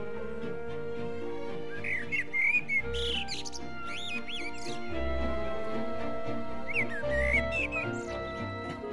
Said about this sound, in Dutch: En hij begint heel hard liedjes te fluiten.